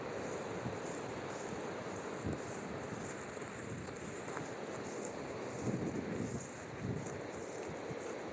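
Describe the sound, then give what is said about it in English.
Strong wind roars steadily outdoors along a path among fallen trees, buffeting the microphone with low rumbling gusts that swell and ease over several seconds, with no voices present. “Too windy.”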